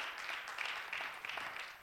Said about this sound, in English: And that deserves an applause. Thank you, Lord.